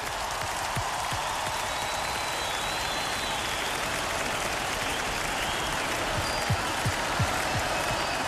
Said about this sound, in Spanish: mira el aplauso, este es para ti.